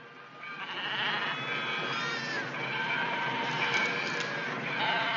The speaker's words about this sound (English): What is it? A Judas goat. Didn't you ever see one? No, what does it do? Watch and you'll find out. See, when they get to the slaughterhouse, he ducks to one side and the silly sheep go in to get their throats cut.